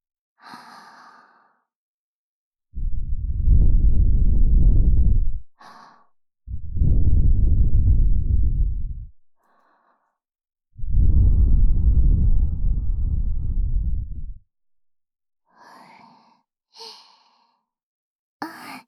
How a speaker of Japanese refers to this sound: それじゃあ仕上げに。耳元へ吐息を。